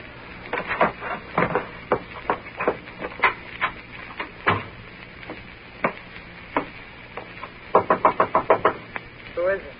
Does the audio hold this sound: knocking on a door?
yes